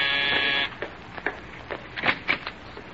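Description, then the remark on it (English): A loud, harsh doorbell buzzer sounds once for just over half a second, then cuts off, leaving a few soft clicks and shuffling noises. “I'll answer the door, Rochester.”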